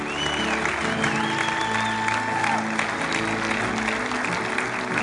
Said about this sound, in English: And you're making a stand in front of a cheering crowd.